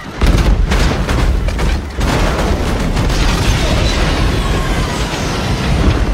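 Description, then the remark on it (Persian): A bird strike on US Airways Flight 1549 in 2009, from its cockpit voice recording, as both engines lose power: a burst of loud, heavy thuds and booms over a dense, roaring engine rumble, with a brief dip before the harsh roar continues steadily. “پرنده ها؟ لعنت.”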